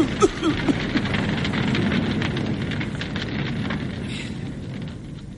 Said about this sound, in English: It's only a fire, man.